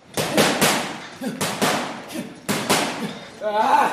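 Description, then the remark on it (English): A sweating boxer pounds a punching bag inside the Top Box gym in northern Johannesburg, South Africa, in quick pairs of sharp, heavy thuds, about six blows in all with short pauses between combinations, before a voice briefly starts at the end. “A sweating boxer punches a bag inside the Top Box gym in northern Johannesburg.”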